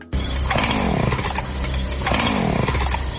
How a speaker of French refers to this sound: Regarde dehors, il y a un monsieur bizarre avec une scie mécanique et un masque. Faut-tu que j'aille peur? Ben non, il n'y a pas de danger. Ça fait une heure qu'il essaie de la partie.